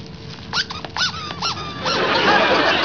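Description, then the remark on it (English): Several sharp, rising-and-falling squeaks from a squeaky rubber dog toy being squeezed in quick bursts, fairly loud, followed by a rougher, noisier squeal as it's pressed harder. “this is a toy for dogs.”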